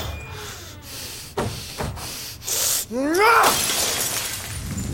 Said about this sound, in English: They said you smashed the fishbowl. Yeah, I did.